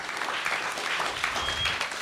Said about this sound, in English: Another round of applause for Joey Greco. Come on, let him hear you.